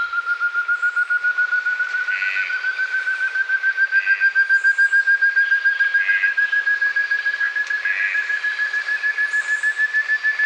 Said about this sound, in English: This biologically diverse habitat has many species found nowhere else and is one of the most threatened forests in the world. Eloisa Matur recorded the piercing calls of the ant thrush, joined by the red-breasted toucan and a piping guan.